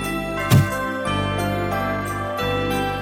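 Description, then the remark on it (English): Festive Christmas jingle bells ring steadily with a bright, shimmering tinkle, a brief louder jangle near the start and short gaps in the ringing, with no voices. “There's nothing like the sweet sound of tinkling bells to usher in the festive spirit.”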